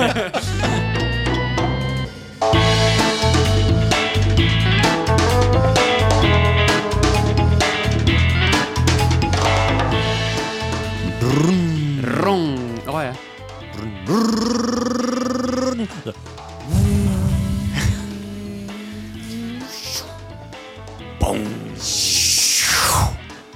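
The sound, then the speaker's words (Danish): The sound of Tom Cruise's motorcycle in a film: the engine roars and revs, rising and falling in pitch through several loud throttle bursts, with a steadier droning stretch and a hissing whine near the end. “Det er bare det første, det var lyden af Tom Cruise motorcykel.”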